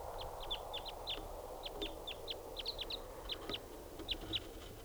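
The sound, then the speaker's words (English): A lone wild bird coming in, recorded at 7:06, calls in a rapid, irregular series of short, high-pitched chirps, some paired, over a steady low rumble of background noise. No one speaks. “So recording at 7:06 now, and there's a wild lone bird coming in.”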